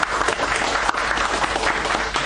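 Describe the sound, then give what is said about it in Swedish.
Steady applause from an audience welcoming a reader before a reading from Yashar Kamal's literature, a dense crackle of many hands clapping at an even loudness throughout, with no voices standing out. “Och Thomas Borg med applåder, och nu ska vi höra ett stycke.”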